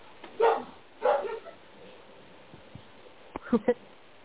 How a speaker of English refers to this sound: Here's some puppies in the background. Yeah, I have a Doberman puppy that can get loud.